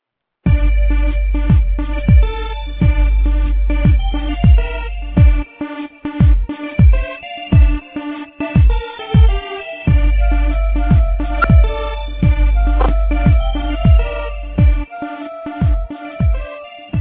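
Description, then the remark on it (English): Upbeat intro music, replayed while the host switches phones, plays on its own, driven by a steady pulse of deep bass thumps under bright, sustained synth chords and melodic notes, fairly loud throughout with no voices. “All right, I need 1 minute to switch phones, so I'm going to play the intro one more time while I switch phones.”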